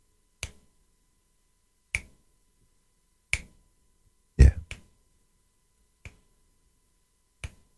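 Crisp finger snaps from a singer about to perform a song live ring out alone in silence, about seven of them spaced at a slow, slightly uneven pace, with two coming close together near the middle and one sounding louder and fuller.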